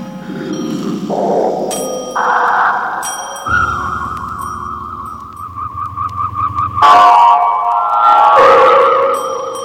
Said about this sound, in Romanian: Au adormit cu toții. Sunetul clopoțelului tău i-a adormit.